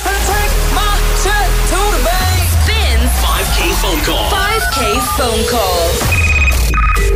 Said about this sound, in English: Phone call.